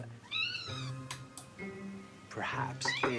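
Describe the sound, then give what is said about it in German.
A cat meows in a few drawn-out, rising and falling calls, interspersed with brief sharp noises, with a steady low hum running underneath throughout. “Katzen miauen selten andere Katzen an.”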